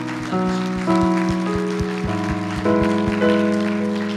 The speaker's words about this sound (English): Can you clap your hands for those that just gave their life to the Lord?